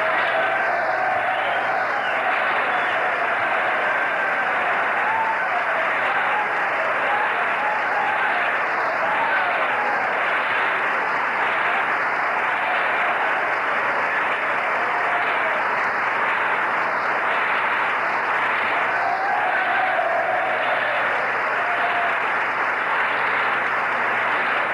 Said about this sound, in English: Gerald Ford's colleagues are on their feet applauding, and obviously that reference was to the minority leader, Gerald Ford.